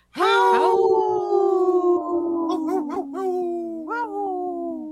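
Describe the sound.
A person imitates a wolf with one long, loud howl that holds steady for several seconds and slowly sinks in pitch, with a few wavering bends near the end.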